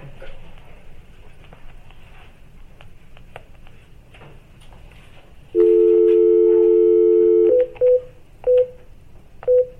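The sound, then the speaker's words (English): A steady dial tone sounds clearly over quiet room noise for a couple of seconds, then gives way to a few short, spaced touch-tone beeps as a number is dialed for a phone call to North Carolina during a meeting. “Okay, we are now at, 9:30 for the phone call.”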